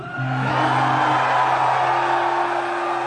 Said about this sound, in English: So can I hear you guys scream a little bit?